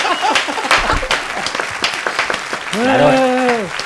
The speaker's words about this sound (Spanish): ¡Un aplauso! Espera que les aplauda, bravo